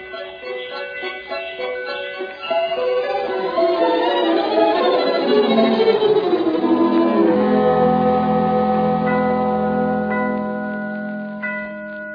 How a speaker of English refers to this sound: what are those bells?